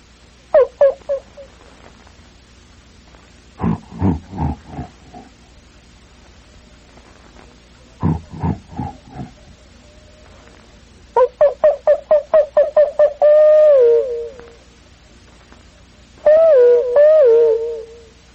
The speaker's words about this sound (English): That's the way the bush sounds in the middle of the afternoon. Something way off is barking, something is howling, something is grunting, something is calling, bell-like sounds.